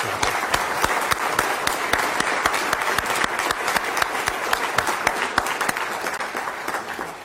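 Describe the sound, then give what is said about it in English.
A crowd at an evening event in Washington, D.C. applauds steadily for several seconds to thank First Things, a dense wash of many hands clapping at a fairly loud, even level with sharp individual claps poking through, and no one speaking. “So before I begin, I invite you to join me in thanking the work of First Things for all that they do tonight.”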